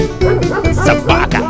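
A dog barks repeatedly in quick, uneven bursts, loud, with a yappy, slightly whining tone and barely a pause between barks.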